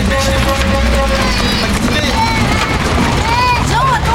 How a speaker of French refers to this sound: À l'image, le porche du garage Demy devant lequel se pressent voitures et charrettes lourdement chargées.